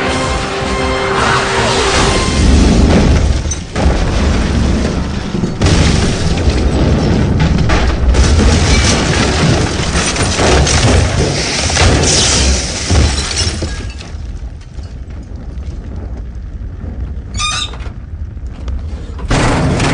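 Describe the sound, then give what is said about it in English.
A jet crash-lands with a loud, sustained roar of booming and shattering impacts that rage for several seconds, then fade into a quieter rumble with scattered rattles. “Haven't crashed a jet in, about a month and a half.”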